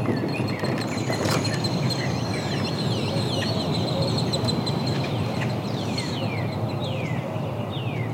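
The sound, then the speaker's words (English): A chorus of birds calls outdoors, with many overlapping high chirps and sweeping whistles repeating throughout over a steady, dense background hiss. No one speaks. “The birds seem louder, but everything else is eerily still.”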